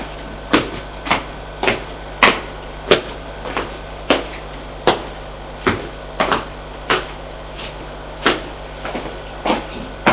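A door or cabinet clacks open and shut over and over, about a dozen sharp wooden knocks at an uneven, steady pace, with no voices; a door being opened on the first floor.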